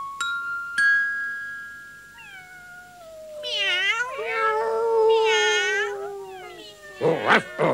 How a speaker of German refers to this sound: Hilfe! Am Gartenzaun hocken mindestens 100 Katzen.